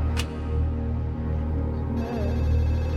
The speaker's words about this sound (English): One evening, I was sat on the settee and the phone rang.